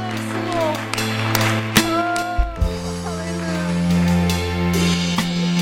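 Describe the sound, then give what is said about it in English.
An audience gives the Lord an applause of praise, a dense wash of clapping blended with sustained organ-like chords, while voices call out over the mix at a fairly even level. “One more time, can you give the Lord an applause of praise?”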